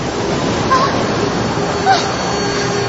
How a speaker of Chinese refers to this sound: 忽然大海变了脸色，天上乌云密布，海面上波浪汹涌，一排排滔天巨浪从海的深处升起，恶狠狠地扑向小船，从它背后袭来，劈头盖顶的砸向了小船。